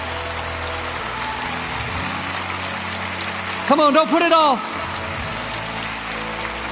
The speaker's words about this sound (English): Come on, Lakewood, let's give them a hand clap as they stand all over the building.